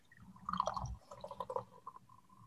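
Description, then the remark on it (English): Coffee poured into a cup, a steady gurgling stream with bubbly splashes that settles into a thinner trickle near the end; no one speaks. “So I'm going to pour mine and...”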